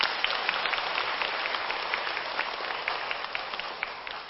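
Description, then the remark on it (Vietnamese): Sustained audience applause, a dense wash of many hands clapping at a steady level throughout, with no voices on top. “Nếu quý vị chấp nhận điều này thì dâng cao một tràng vỗ tay.”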